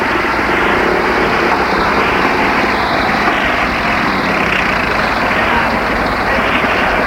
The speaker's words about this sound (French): Un camion en bas de la rue, arrêté au travers de la rue pour la fermer. Un camion, puis deux.